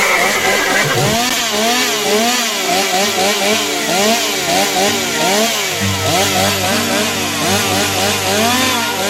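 A motorized saw runs loud for the whole stretch, its engine revving up and down in repeated surges with a harsh, buzzing drone underneath.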